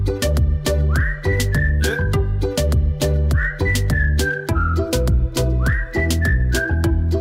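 A whistled melody with rising, gliding notes repeats over a loud, steady backing of drums and bass in a played song, the whistle phrase returning three times.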